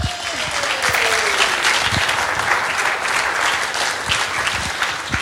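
An audience applauds steadily, a dense wash of many hands clapping at a fairly loud, even level throughout, with a faint falling tone sliding down early on.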